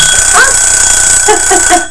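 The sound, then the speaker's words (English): A loud, shrill mechanical bell from a Christmas timer rings continuously with a rapid metallic clatter, like an old alarm clock going off, sustained for the whole moment without any talking. “Did that make you jump? It's like an alarm clock, isn't it?”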